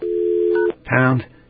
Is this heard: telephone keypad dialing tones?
yes